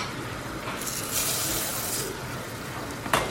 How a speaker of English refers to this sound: But before we do that, we're going to toast the rice for a minute or two.